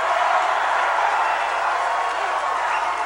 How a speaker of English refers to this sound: They're shouting, lock her up, lock her up.